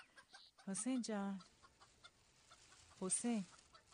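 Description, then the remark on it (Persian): Caged birds clucking after bags of bird seed were emptied into their cage, a few short harmonic bursts in two clusters with a pause between, against a low background hum and no talking. “همه ی نایلون دونه ها رو خالی کردی تو قفس پرنده ها.”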